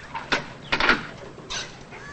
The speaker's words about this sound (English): He quickly turns around, then quietly walks to his apartment door. Who is it? Police. Thurlow opens the door.